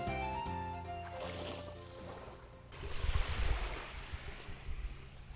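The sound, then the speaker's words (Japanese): Gentle, calm sea waves with clear water wash and lap against the beach of Susami swimming beach in soft, rolling swells, moderately loud, following a few seconds of a steady tonal hum that fades away. “浜辺におりますよ。 すっごい穏やかな海水浴場、 うん、観光案内所のテラスに行った時に、あ、ちょうど目の前に海があるじゃないですか、浜辺もありますよということでやってきました、はい、 すさみ海水浴場、 うん、はい、ね、 穏やかだな、で水きれいだな、”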